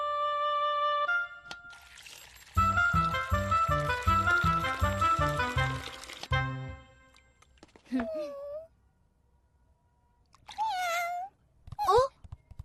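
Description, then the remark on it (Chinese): A dirty cat meows three times in the latter half as it is called over to be washed, short bending cries spaced a few seconds apart, after a stretch of rhythmic, bright tonal music. “猫咪，猫咪快来。”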